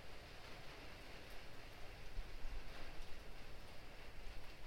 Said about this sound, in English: Or to open your ears to the pitter-patter, the rain on the rooftop.